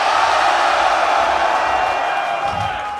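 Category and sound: crowd, concert crowd cheering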